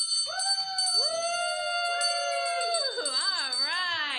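A bell is rung in celebration of a founder's pledge during a Catholic Radio pledge drive, ringing steadily throughout with bright, sustained high tones, while long gliding, wavering tones swell over it and grow more warbling toward the end.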